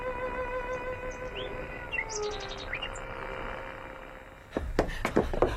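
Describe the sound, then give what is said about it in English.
The song of a wild bird, relayed by radio broadcast from Beatrice Harrison's garden in Surrey, comes through a radio set: scattered high chirps and quick rising whistles over a steady sustained tone and soft hiss, ending with several sharp knocking clicks. “Martin at the forge, and it's coming through on his set clear as a bell. It's a marvel, sir. Hearing the bird.”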